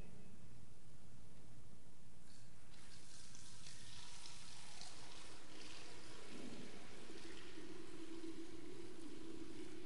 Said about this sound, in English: He took off his outer robe and tied the towel around himself. And then he poured the water into the basin.